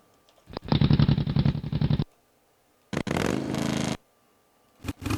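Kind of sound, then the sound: vehicle, motorcycle engine sound effect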